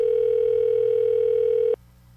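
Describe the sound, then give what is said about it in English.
A phone line ringing through the earpiece on an unanswered call to a phone with no voicemail: one steady, fairly loud electronic ring tone holds for nearly two seconds, then cuts off into quiet line hiss. “Ooh, a lot of rings here.”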